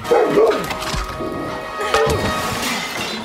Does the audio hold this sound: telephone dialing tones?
no